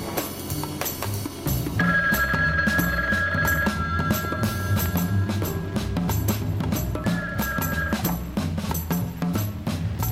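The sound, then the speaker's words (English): A telephone rings twice in long, steady trilling bursts with a pause between them, heard over a dense, busy background of music and noise. “This has got to be Keith. Right. I have the only working phone left.”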